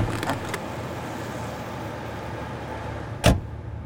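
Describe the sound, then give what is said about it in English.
A car engine rumbles steadily, a low idling drone with a few faint clicks early on and a sharp thump near the end, like a door. No one speaks. “Get in this car.”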